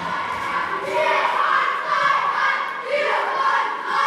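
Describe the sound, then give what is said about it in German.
A crowd of children shouting and cheering together as they storm a wall built of cardboard stools, tearing it down within seconds; a loud, sustained roar that surges in waves, with high excited voices overlapping throughout. “Die Kinder stürmen die Papphocker, aus denen sie gebaut wurde, und innerhalb von Sekunden ist nichts mehr davon zu sehen.”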